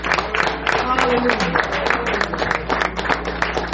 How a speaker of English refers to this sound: Clap your hand for the word. Thank you, Lord.